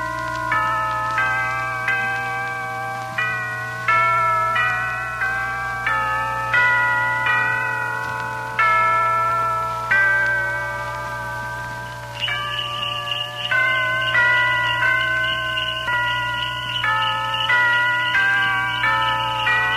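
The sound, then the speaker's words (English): Village church bells peal in a steady run of ringing strikes with lingering tones, and a brighter jingle of sleigh bells joins partway through, at Christmas in snowy English countryside. No one speaks. “Church bells and sleigh bells, mingling as old and young, hurry on their way to the village church, a church of brown nestling against the white in the green background of evergreen.”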